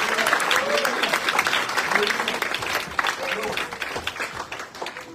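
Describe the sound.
An audience applauds after a prayer, with steady, dense clapping that holds for the whole stretch, a few voices calling out beneath it before it starts to thin slightly toward the end.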